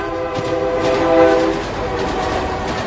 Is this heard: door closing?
no